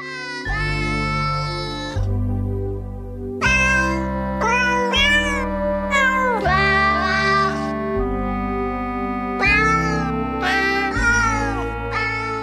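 Cat meows pitched to a cheerful holiday melody, each note a distinct meow over a steady bouncy instrumental backing, loud and continuous with no talking.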